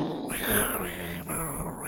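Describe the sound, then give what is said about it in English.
A voice imitates jet engine noise: a steady, breathy roar with a hissy top, its pitch sweeping up and down across about two seconds, with a brief dip midway. “Making jet noises there? I'm a jet.”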